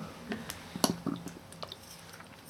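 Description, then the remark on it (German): Someone pauses speaking to take a quiet sip of water to moisten a dry mouth, with a few soft, wet mouth clicks and a small swallow spread over a couple of seconds. No one speaks. “so dann mache ich immer so eine Pause, manchmal auch mitten im Satz und trinke erstmal was.”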